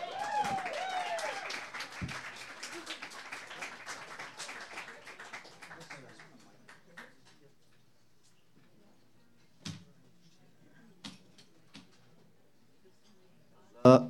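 An audience applauds the next performer, a singer-songwriter who does whistles and bird calls, in a dense, steady wash of clapping that thins out after a few seconds and fades away, leaving a few scattered, isolated claps.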